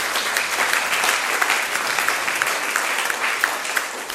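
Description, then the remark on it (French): A room full of people applauds the competition teams who are present, a dense wash of clapping hands that holds at an even, fairly loud level for a few seconds with no voices on top. “Et ils sont là, je crois qu'on peut les applaudir pour ceux qui sont en tout cas présents.”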